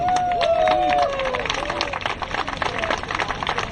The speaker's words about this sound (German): Es gibt eine einzige Neuigkeit. Ihr habt bei dieser Sammlung 900 Euro gespendet. Dieser Applaus geht an euch.